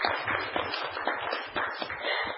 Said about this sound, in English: The 2014 inaugural NGAA Growth That Works National Congress, hosted by the City of Playford, South Australia, the resilience winner being Melton Library Learning Hub Project. Well done. I think it deserves a huge round of applause.